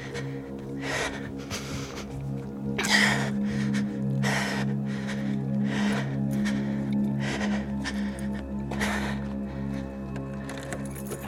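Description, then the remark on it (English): A woman's panicked hyperventilating breaths, fast and ragged at about one per second, over a steady low droning hum with no talking. “And I must be in retreat for some good reason, so start sweating and hyperventilating.”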